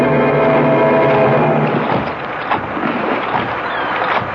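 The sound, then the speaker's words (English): A small rowing boat tossed in rough sea as a storm brews and the boat sinks, with loud, steady sloshing and churning waves and gusty wind roaring throughout, continuous, with no voices. “The boat is sinking, Mrs. Forbush. It's going straight to the bottom.”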